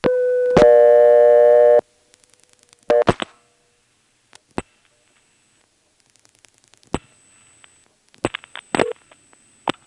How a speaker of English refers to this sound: In the main Greenville NX1, the code 110 goes to operator intercept. You can actually get into that here. probably by dialing 110, but I stumbled upon it here by dialing 8+10, and then I dialed another digit 1 that wasn't necessary.